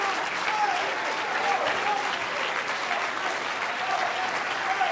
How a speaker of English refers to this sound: Just stop for a minute. Clap your hands. Lift up your voice.